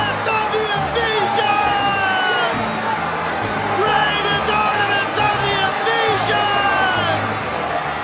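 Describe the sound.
A large crowd in Ephesus shouts and yells together, "Great is Artemis!", a dense, loud roar of many voices that stays steady throughout, with raised cries rising out of the din.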